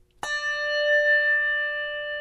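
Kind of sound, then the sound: signal or alarm, bell being rung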